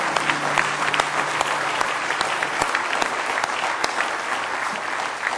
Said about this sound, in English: Give him one more good hand clap of praise if you love him.